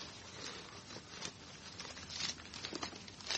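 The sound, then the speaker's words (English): Soft, continuous rustling and crinkling as paper is drawn out of a handbag, with a few brief scratchy bursts, fairly quiet, no voices. “Here, I have a piece of paper in my handbag.”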